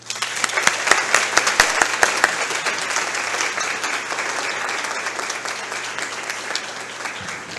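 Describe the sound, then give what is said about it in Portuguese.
An audience breaks into sustained applause, many hands clapping in a dense, steady wash with a few sharper individual claps standing out early on, holding at a fairly loud level throughout. “Então, eu quero pedir a todos aqui uma salva de palmas para vocês.”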